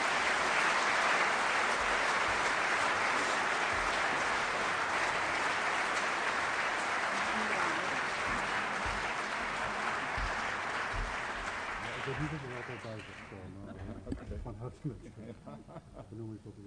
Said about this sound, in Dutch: Graag applaus voor deze nieuwe ereburger van Nieuwegein.